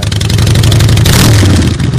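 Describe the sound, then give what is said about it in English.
A car engine revs loudly, a deep, throaty roar that holds steady for a couple of seconds with no one talking over it. “I love the sound of an engine.”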